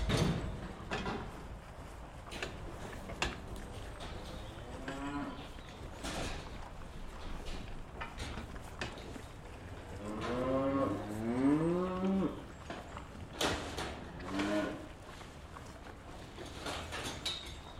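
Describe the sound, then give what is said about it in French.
A herd of cows moos repeatedly, with several drawn-out, overlapping calls over a steady background of shuffling and rustling noise. “Ce troupeau va augmenter et ça permettra donc du coup demain à des futurs éleveurs qui vont s'installer de dire voilà, demain moi je m'installe au mois d'avril, je veux 20 vaches, automatiquement il y aura ces 20 vaches.”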